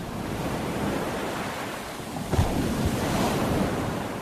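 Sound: ocean waves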